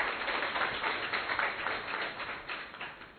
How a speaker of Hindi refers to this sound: तालियां बजा के उनका आभार व्यक्त करेंगे।